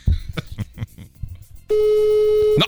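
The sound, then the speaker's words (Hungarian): A phone line's ringing tone: one steady, loud electronic beep lasting about a second, after some soft clicking and handling noises, with no one answering. “De nem veszi föl. Csak kicsönk.”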